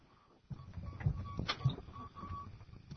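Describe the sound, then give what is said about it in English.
In a studio, a tape deck gives off a faint, steady high-pitched electronic beep in short, uneven pulses behind a low mechanical rumble, with a couple of soft clunks along the way. “Is there a beeping sound in the background? Squeaking, I think.”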